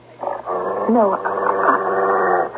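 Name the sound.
dog barking and whimpering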